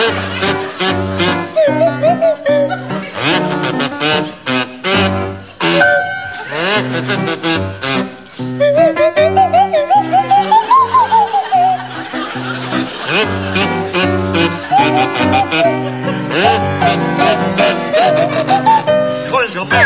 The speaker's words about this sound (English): and it's to feature Willie Rushton on kazoo and Tim Brooke Taylor on Swanee Whistle.